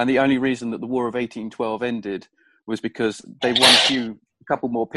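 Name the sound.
sneeze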